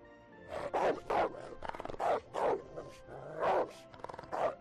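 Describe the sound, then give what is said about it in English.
A wolf vocalizing, a run of about nine loud, rough barking growls in quick, uneven succession with brief pauses between them, and no one talking. “Wolf.”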